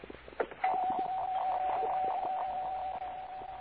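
A doorbell rings at house number 105, whose door stands open, as one long, steady buzzing tone, mid-pitched and unbroken for about three seconds, after a few faint knocks and rustles at the start.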